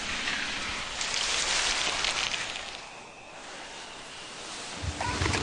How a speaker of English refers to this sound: There's clicking, there's the steam sound, the whoosh, the breathing of the steam, and the spray starch. And then when the starch lands on the fabric, that's another nice sound. It's like rain.